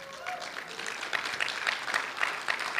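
An audience applauds steadily for a few seconds, a dense patter of many hands clapping, with a few scattered voices calling out among the claps.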